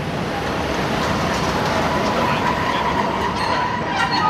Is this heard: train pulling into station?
yes